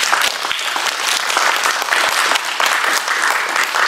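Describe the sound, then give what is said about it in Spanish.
A crowd applauds the King, Jesus Christ, steadily, a dense wash of many hands clapping at a fairly loud, even level for several seconds with no voices above it. “Un aplauso para el rey.”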